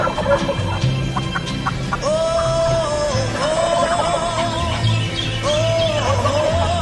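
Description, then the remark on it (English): Turkeys gobble repeatedly outdoors in springtime, their rattling calls overlapping in a busy chorus with owls hooting steadily in the background. No one speaks. “Springtime, turkeys are gobbling, owls are a-hooting.”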